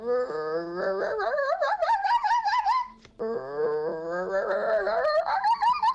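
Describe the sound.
A person imitates a fox with two long, wavering howls that climb steadily in pitch, separated by a short pause. The voice is strained and yelping, loud throughout.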